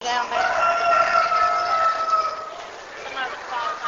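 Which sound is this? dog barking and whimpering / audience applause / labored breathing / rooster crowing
rooster crowing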